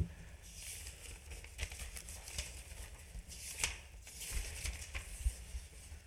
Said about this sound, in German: ich kann schlecht blättern